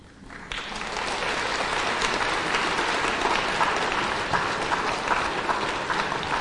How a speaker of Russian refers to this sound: Ваши аплодисменты мне нужны, потому что этот тур, который я сейчас делаю, он очень тяжелый. И как бы хочется, чтобы оценили этот подвиг.